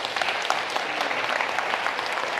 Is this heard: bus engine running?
no